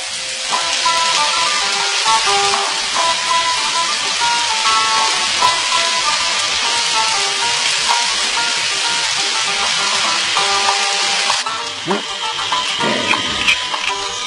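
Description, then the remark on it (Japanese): Red acid rain pours down outside over a town in a dense, unbroken hiss for the whole stretch, steady and loud, with faint sustained tones humming underneath and a brief dip in the downpour near the end. “外はまた酸の雨だ。”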